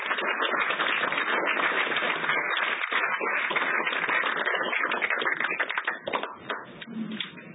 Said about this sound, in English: Please join us in clapping for them.